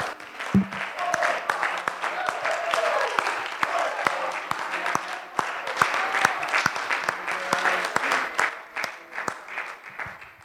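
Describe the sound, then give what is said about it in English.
A church audience gives God a hand clap of praise, with sustained, dense clapping for about ten seconds, sharp claps standing out over a steady wash, with faint voices and cheers mixed in. “Let's give God a clear hand clap of praise and victory.”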